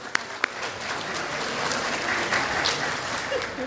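A church audience claps steadily, a dense, even patter of many hands that holds at a constant level for a few seconds, with a couple of sharper claps standing out at the start.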